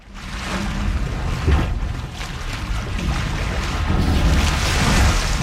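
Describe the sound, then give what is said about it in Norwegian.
Seaside ambience by the sea of steady rushing wind and surging waves, a broad continuous roar with gentle swells in intensity, fairly loud, with no voices. “Da vi ute ved havet.”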